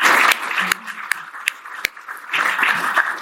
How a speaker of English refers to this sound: It's a little bit of a walk. Keep clapping for him until he gets to his seat, please.